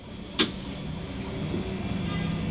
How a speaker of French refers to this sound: Dans un bus parisien, à l'heure de pointe.